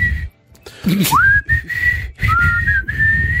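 Someone whistles a short, lilting tune, clear sustained notes with a rising swoop and a few pitch slides, pausing briefly between phrases over a low background rumble.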